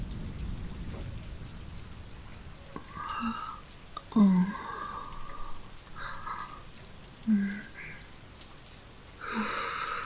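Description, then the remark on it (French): Steady rain patters down in a constant hiss, broken by several louder splashing drops at irregular intervals, with a low rumble underneath at the start and no voices. “Chaque goutte tombant sur ma peau, semblable à un baiser humide.”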